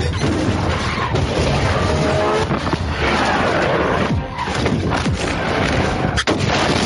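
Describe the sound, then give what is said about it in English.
Loud, dense explosions and crashing debris from a film produced by Michael Bay fill the whole stretch, a continuous roar of blasts with sharp impacts and rumbling booms layered over one another, overwhelming. “But things going boom.”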